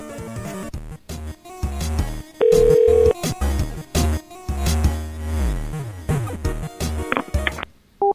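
A loud, flat telephone line tone after the called party hangs up cuts in for under a second, surrounded by a dense, chaotic jumble of music-like sounds and sweeping noises; no one speaks.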